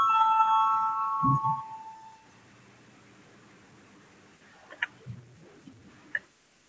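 parliamentary voting bell

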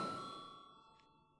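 parliament voting bell chime

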